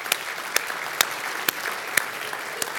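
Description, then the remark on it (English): A church audience applauds the children steadily, many hands clapping in a dense, even patter with a few sharper claps standing out, moderately loud, with no one speaking. “And could we give a round of applause for our kids?”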